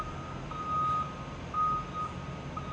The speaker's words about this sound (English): He's digging a hole. The dump truck's backing up so he can dump dirt.